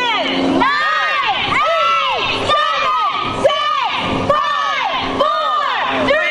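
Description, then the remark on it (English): A large crowd, including families with little kids, buzzes with excited chatter and scattered shouts while awaiting a smokestack demolition, many voices overlapping in a steady, loud din, with occasional whoops rising above the murmur. “because you get to hear the excitement of the buildup and then everyone freaking out.”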